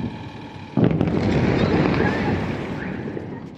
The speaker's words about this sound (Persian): بامداد جمعه 23 خرداد که مناطق مختلف ایران با صدای بمب و انفجار بیدار شدند.